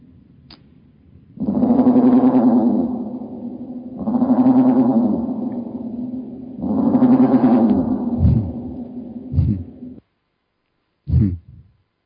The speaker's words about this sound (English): I'll play a raven. Okay. This raven actually has some reverb on him, well, like he's in a cave or something. Take a listen. Here's normal speed. Now listen to at slow speed.